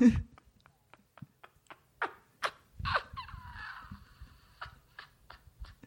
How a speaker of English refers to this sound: Is that a bat? A bird got in here. Oh, wait. What is that?